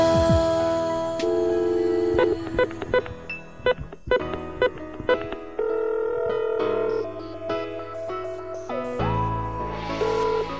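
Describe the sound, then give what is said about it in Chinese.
A telephone rings on and on without being picked up, its bright electronic melody repeating in tinkling, steady tones, with no voices. “你玩咩啊？电话又唔听，打去你屋企又话你唔喺度，你避我啊？”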